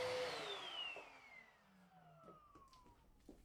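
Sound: vacuum cleaner running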